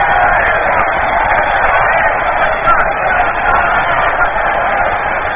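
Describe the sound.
A stadium crowd at a baseball game roars and murmurs in reaction to a disturbance in the crowd, a dense, continuous wash of many blended voices, staying loud and fairly steady for several seconds with only slight swells.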